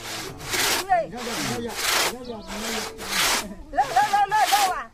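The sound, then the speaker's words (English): A two-man saw cuts through wood in steady, rhythmic back-and-forth strokes, loud, with one man standing in a 4-foot-deep ditch pulling the saw from below, and faint voices calling in the background as if directing. “Let's listen to that sawing again.”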